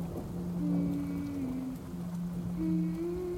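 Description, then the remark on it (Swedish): Steady rain falls in a continuous hiss, while low, sustained humming tones drift underneath like a faint, distant melody. No one speaks. “Genom regnet så hör jag ett avlägset hummande.”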